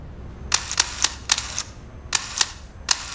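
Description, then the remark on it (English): A camera shutter clicks repeatedly as a woman photographs a tearful younger woman, about eight sharp, crisp snaps in two quick bursts separated by a short pause, over a faint low background hum with no voices. “Anna, a little uneasy, steps towards the younger woman and, swallowing hard, lifts her camera to her eye.”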